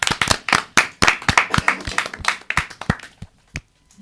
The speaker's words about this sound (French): Eh ben, bravo pour ce quiz. On peut s'applaudir.